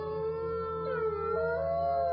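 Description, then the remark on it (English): Sustained, wavering canine howls ring out together, long drawn tones sliding slowly up and down in pitch at a steady moderate loudness with no talking, like a wolf pack howling in chorus. “She heard the wolves howling and trying to smell them through the cracks in the walls of the house.”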